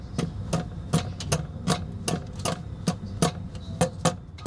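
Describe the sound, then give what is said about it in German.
Pigeons pecking: a quick, slightly uneven series of sharp tapping clicks, about a dozen in a few seconds, fairly loud over a low steady hum, with no voices. “dass sie dann erstmal richtig anfangen, irgendwo anders drauf zu picken, weil sie denken, irgendwas ist hier total verrückt”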